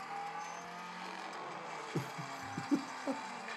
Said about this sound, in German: Aber hier, der Motor heult. Brems!